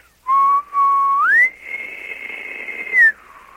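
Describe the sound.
A person whistles in imitation of an elk bugle: a steady low note that slides up to a long, high sustained pitch, then drops back down. Clear, with no talking.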